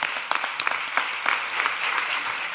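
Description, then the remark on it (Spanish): Steady audience applause for Luis Rivero at Cadena SER fills the whole stretch, a dense wash of many hands clapping with scattered sharper claps standing out, fairly loud and with no voices over it. “Vamos a darle un aplauso enorme a Luis Rivero, por, no solamente por haber descubierto a Carlos Blanco, sino por todo lo que ha hecho en la cadena SER y de esta casa.”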